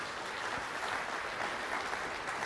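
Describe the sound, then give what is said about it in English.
A crowd applauds steadily, a dense wash of many hands clapping at an even, sustained level throughout with no talking over it. “And let's give the same applause.”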